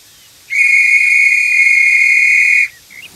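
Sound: whistles being blown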